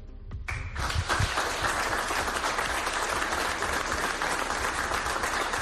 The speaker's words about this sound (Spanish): El aplauso de todos los que allí estaban de la diócesis de Ourense en el nombramiento oficial en la designación del Papa Francisco de Monseñor Manuel Luis Cuña como prelado de la Orden de Malta.